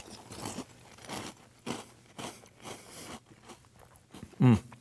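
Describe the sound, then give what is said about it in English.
Loud crunching of crisp Captain Crunch Crunch Berries cereal with milk being chewed, a steady series of brittle bites and grinding with one especially sharp crunch near the end, and no talking. “I really want to eat these.”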